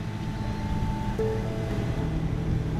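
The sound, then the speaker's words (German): An oyster farmer's motorboat drones through the shallow Ria Formosa wetland on Portugal's Algarve coast toward an area marked with small black buoys, water about one metre deep. Its engine hums with a faint whine over constant sloshing and wind noise, fairly loud, with no one talking. “Er lenkt das Boot auf eine mit kleinen schwarzen Bojen abgesteckte Fläche zu.”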